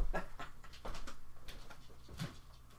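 dog panting

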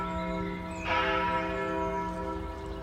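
church bells ringing

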